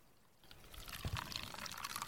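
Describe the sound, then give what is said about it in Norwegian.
Freshly made coffee being poured into a cup beside a campfire, a steady splashing trickle that starts after a brief quiet moment and continues bubbling and gurgling at moderate volume, with no talking. “Begynner kaffen å bli klar, eller? Ja, må være klar nå.”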